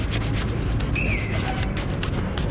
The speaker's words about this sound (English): On this day, though, I'm wide awake in the old part of town, in the central plaza, where the women still drone and the little kids still scamper up to shine your shoes.